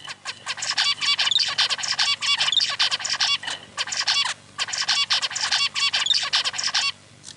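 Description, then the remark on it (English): A zebra finch sings a busy, repeated song of buzzy, nasal notes and quick chirps, delivered in several loud bursts separated by brief pauses, with no one talking. “And that's the zebrafinch. Right, so that's a pretty typical bird song.”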